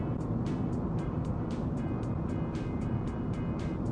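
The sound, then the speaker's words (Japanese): A car cruises along a highway with a steady, loud engine and road drone that never lets up, driving without stopping as there are no traffic lights, during the Obon holiday season, overlaid with faint, regularly repeating ticks. No one speaks. “しかしまああれだね、ウインカーの音もまず俺が追い越し車線を使わないから、ウインカーの音も聞こえない、信号ないから止まろうともしないから、ずっと皆さんブーンっていう音しか聞こえないっていう事態ですよね。”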